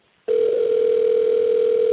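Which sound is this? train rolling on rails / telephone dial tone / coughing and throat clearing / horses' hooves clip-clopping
telephone dial tone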